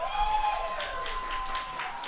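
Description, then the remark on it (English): An audience claps steadily for a couple of seconds as film options are read out for a vote, a dense, even patter of many hands at moderate volume, with a faint high tone humming underneath. “I think people are clapping for everything, actually.”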